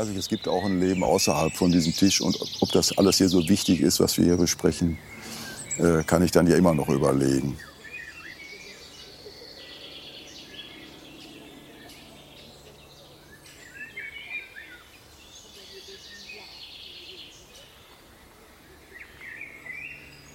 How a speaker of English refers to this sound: Right now it's a harmonious atmosphere. We can hear a lot of birds that are singing.